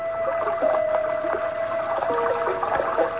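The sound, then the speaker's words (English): Steady rushing rainwater pouring through a gutter past the only window of a room just below gutter level, in a narrow street in Edinburgh, Scotland; a continuous wash with faint gurgles and a thin ringing tone running through it. “That's the way it sounded when it rained, because the room was just below gutter level, and the rainwater rushed by the room's only window.”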